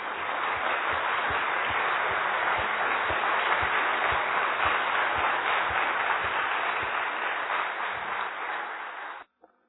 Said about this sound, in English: So if you would like to give a little round of applause